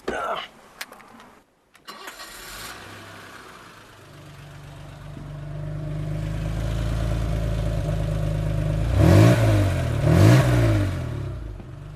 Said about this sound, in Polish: Co drzemie pod maską? To jest rzędowy silnik sześciocylindrowy. W tym modelu były 2,8 i 3,5 litra. To jest akurat 2,8. 184 konie. Mruczy? Mruczy.